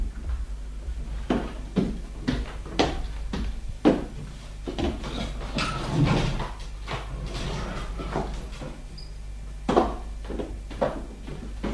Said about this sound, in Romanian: Du-te tu și te uită. Crapă puțin ușa.